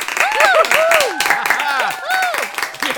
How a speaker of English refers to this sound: They all clap, cheer, and drink up as the clock strikes midnight.